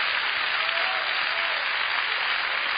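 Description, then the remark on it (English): A church audience bursts into steady, dense applause as a hand clap for the Lord, many hands clapping at once in a sustained wash of sound that holds evenly loud throughout, with no voices standing out. “Let's give the Lord one wonderful hand clap today.”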